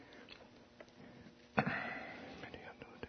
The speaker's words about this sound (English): I actually hear pages turning.